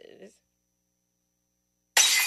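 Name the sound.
glass shattering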